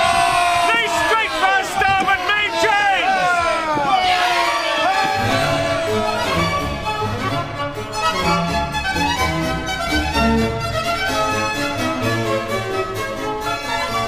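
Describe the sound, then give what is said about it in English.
In a radio dramatization of The Mauritius Command, a crowd of men in boats cheers loudly as they row, overlapping whoops and shouts swelling and falling in pitch, then blending into a sustained, roaring hubbub that carries on without a break. “Now, men, raise a cheer and stretch out like good uns!”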